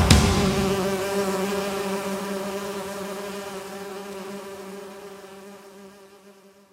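Bees buzz in a steady, droning hum that starts loud, then slowly fades over several seconds. No one speaks.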